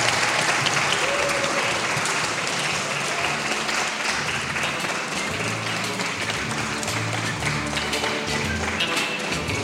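Sustained audience applause fills the whole stretch, a dense, steady wash of many hands clapping, loud and continuous without pause or build.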